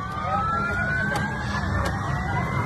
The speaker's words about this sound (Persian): همزمان در اسرائیل ساکنان برخی از شهرها با آژیر خطر حمله هوایی از خواب بیدار شدند و هشدارهای اضطراری از طریق تلفن همراه دریافت کردند.